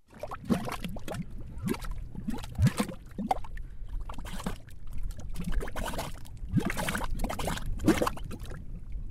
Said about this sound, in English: These are mud pots. They're spitting gray mud, like little volcanoes. You can only find mud pots in a few places around the country.